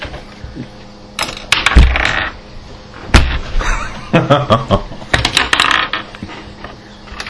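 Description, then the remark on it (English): Dice clatter and tumble across a hard tabletop in several separate rolls during a tabletop game, each a quick burst of sharp clicks and knocks that settle before the next throw. “Roll again for the beginning of this turn. So you essentially get to roll twice.”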